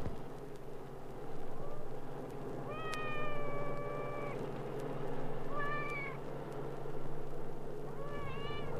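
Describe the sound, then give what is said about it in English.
A cat, waiting to be given breakfast, meows three times at intervals, the first a long drawn-out cry and the later two shorter, over a steady low rumbling hum. “The cat sits and waits for someone to get up and give him breakfast.”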